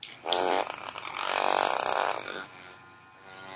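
A battery-powered vibrator with fresh batteries buzzes in two bursts, a short one and then a longer, steady drone of about a second, with a low, rough hum and no talking.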